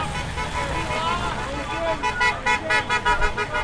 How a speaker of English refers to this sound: On Saturday, more than 100 people gathered in the cold. Some chanted, "Stop the steal," and many cars drove by honking in support.